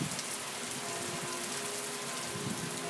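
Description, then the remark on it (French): Steady rain pours down on 15 August in a continuous dense hiss, with soft patters of drops hitting a surface; no voices, just an even, unbroken wash of rainfall. “Aujourd'hui, c'est le 15 août, mais il pleut.”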